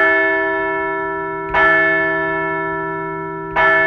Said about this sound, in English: Let's ring the bell as the Phillies keep rolling on the road.